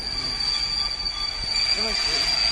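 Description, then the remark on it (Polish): A delayed TLK fast train bound for Poznań rolls in, a steady high-pitched wheel squeal ringing over the low rumble of the cars, with a few brief lower screeches near the end. “Na szczęście nie jest przepełniony, więc chyba wszyscy wsiądą.”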